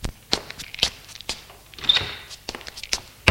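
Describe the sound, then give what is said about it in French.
Several soft, irregular footsteps of a woman leaving a room thud, mixed with the knock and shuffle of a door being handled, with no voices. “Elle sort de la pièce.”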